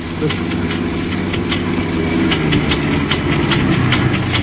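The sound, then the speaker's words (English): A car engine breaking down runs with a loud, steady low rumble while a rapid, irregular metallic knocking taps over it, the motor sounding rough and strained as if about to give out. “There's something wrong with the engine. It's packing up.”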